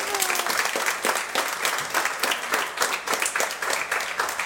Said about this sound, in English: Thank you. Wow. How about a round of applause for that nice thank you?